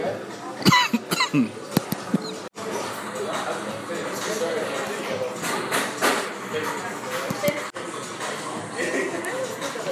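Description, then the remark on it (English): A loud fit of coughing after finishing a meal: several harsh coughs in quick succession near the start, then a steady hum of room noise with a few scattered thumps. “Excuse me, a bit of a fit of coughing.”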